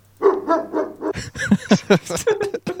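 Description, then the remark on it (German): A dog-bark sound effect played from a soundboard repeats: a few drawn-out yelping barks over a faint low hum, then a quicker run of sharp, loud barks with short gaps. “Ich glaub, das hört sich so echt an. Ich glaube, das lasse ich auf dem Soundboard. Ich habe auch noch einen anderen Hund.”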